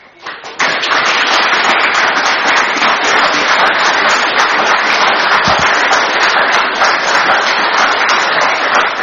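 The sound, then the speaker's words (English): A crowd at a council meeting breaks into sustained applause, loud and dense, many hands clapping steadily for several seconds after a brief quiet start, without any speech over it. “And I didn't say that, Mayor, to get the appreciation of the crowd, but on that basis, I cannot support this plan.”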